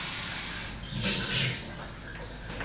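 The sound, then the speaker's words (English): Water runs steadily into a sink, with a louder splashing gush for about half a second as a cup is rinsed, then settles back to a softer trickle. “Tip it out in the sink. Rinse my cup.”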